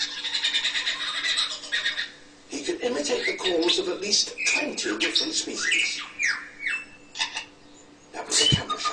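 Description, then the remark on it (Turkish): A single bird runs through a rapid medley of other birds' calls: shrill chirps, whistles, trills and squawks, switching types every second or so, fairly loud, nearly continuous for several seconds. “Başka kuşların taklidini yapıyor şu anda.”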